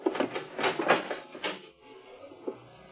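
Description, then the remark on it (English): A heavy door grinds open with a series of loud, rough mechanical bursts over about a second and a half, then settles into a quieter low rumble with one last clunk. “Earthman, you will open that door.”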